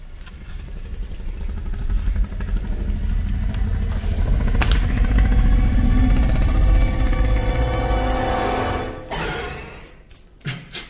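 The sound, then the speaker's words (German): A deep, rumbling roar of the Indominus Rex from a film, loud and sustained for several seconds with a growling, engine-like texture, then faded out abruptly near the end because another clip began right after; the original roar was much louder. “Dieses Röhren war eigentlich sehr viel lauter.”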